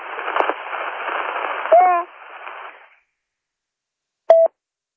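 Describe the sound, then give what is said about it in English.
A weak radio transmission hisses with static, faint garbled voice fragments breaking through before the signal cuts out to silence; a short electronic beep follows moments later. “I heard Kilo Echo 2, and then we lost him. Yeah, but then we got some other spurious stuff”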